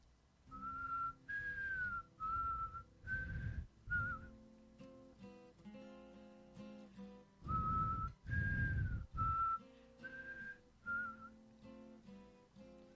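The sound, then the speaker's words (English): A person whistles a gentle melody in short sustained phrases, clear, as the opening of a quiet song, over soft instrumental accompaniment with a steady low pulse; no one speaks. “Start with the whistle.”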